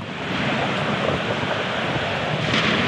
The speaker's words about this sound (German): Also die Wolken werden dunkler, die Blitze heller, der Wind stärker und der Donner kommt näher.